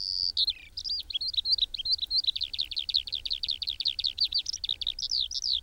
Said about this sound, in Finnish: Muistan, kun pikkupoikana vapautin kiurun, joka oli tarttunut jalastaan piikkilankaan. Jalka oli hiertynyt melkein poikki, ja mieleeni jäi pysyvästi se, kun lintu alkoi heti laulaa, vaikka toisen jalan varpaat jäivät siihen piikkilankaan.